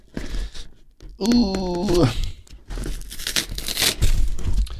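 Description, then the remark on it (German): Tearing and crinkling of a heavily taped parcel marked 'caution glass', with a brief high squealing stretch as tape pulls away, followed by rough, bursty ripping and rustling of packaging. “Mann, ich hasse Pakete aufmachen, ehrlich, Mann, weil die auch teilweise immer so viel Klebeband da drauf machen, dass du es halt nicht abkriegst.”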